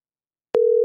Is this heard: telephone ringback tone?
yes